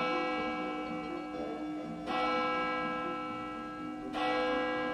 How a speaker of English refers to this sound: Volunteers stored firefighting equipment in their homes, and church bells sounded the alarm when fire emergencies arose.